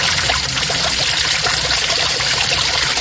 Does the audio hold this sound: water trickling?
yes